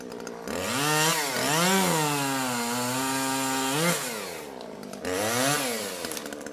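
A chainsaw roars, its engine pitch rising and dipping as it revs and bites into wood in a few long sustained cuts, with a brief drop between passes, as a large tree on Żeromskiego Street in a town is cut down around 8 on a Saturday morning.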